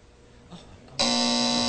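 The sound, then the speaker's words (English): A loud, harsh game show buzzer blares abruptly after a quiet moment, a steady raspy electronic drone sustained to the end. “Oh, the buzzer hit first.”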